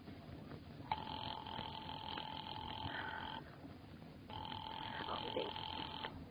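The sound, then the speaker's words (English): A telephone line rings twice as a caller rings the operator, each ring a long steady buzzing tone lasting a couple of seconds, separated by a short pause, heard over a low rumbling background. “Well, all right, I'll call the police.”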